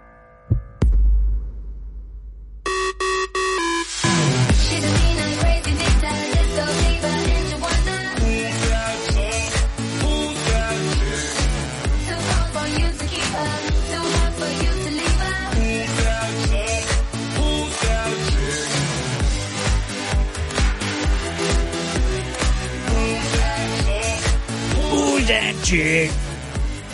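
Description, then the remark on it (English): After a brief low rumbling intro, a loud, steady drum beat kicks in and pounds on throughout, its hits booming and echoing within a dense, full-bodied musical backing. “echo drum.”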